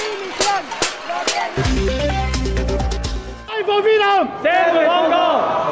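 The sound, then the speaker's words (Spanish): A crowd of hundreds of people shouts and chants "libertad" (freedom) together, loud and continuous, demanding the government's resignation, joined by some leaders of the far-right party Vox, with a steady low drone or horn blaring through the middle stretch before the chanting surges again. “Con gritos de libertad, centenares de personas, acompañadas esta vez por algunos líderes del partido ultraderechista Vox, han exigido la dimisión del Gobierno.”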